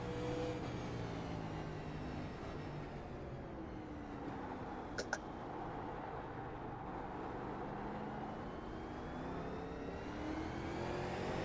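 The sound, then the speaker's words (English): A truck engine roars steadily and loudly throughout while racing against the clock, its pitch rising and falling as it revs under hard acceleration, with a brief sharp click midway and no voices. “I just wish I could squeeze a little bit more speed out of the truck.”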